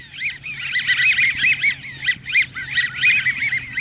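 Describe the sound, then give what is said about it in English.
A flock of American wigeons gives squeaky, rubber-duck-like whistles, many overlapping calls repeating rapidly and continuously, fairly loud, with no one speaking. “These rubber ducky sounds come from a flock of American widgeons, trim brown ducks with pale blue bills and big white wing patches.”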